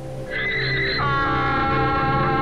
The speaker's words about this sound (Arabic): نهق الحمار مجددا